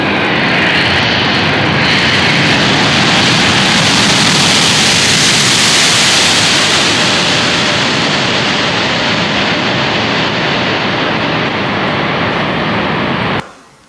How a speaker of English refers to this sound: Okay, you probably heard the engine fail. In the cockpit, you hear it right away. The pilot in the cockpit is not allowed to react to the sound. The engine really surges. It's one big bang.